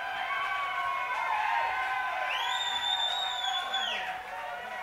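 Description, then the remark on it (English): Piercing, sustained whistles ring out from an audience over a steady crowd roar, with one especially loud, high whistle held for over a second before dropping away. “I've never heard such loud whistling in my life.”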